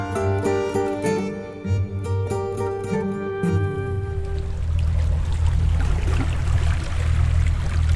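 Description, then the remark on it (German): A boat's motor drones steadily with a tonal hum, then gives way to a continuous rush of water churning over a low engine rumble, fairly loud, with no voices. The boat is turning onto the small river Say, gliding between green forests and meadows. “Zurück auf dem Boot. Wir biegen auf die Say ab. Eine andere Welt. Der Fluss ist klein.”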